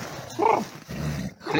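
A dog barks in short, sharp bursts with a low, rumbling growl in between, fairly loud, with no voices present.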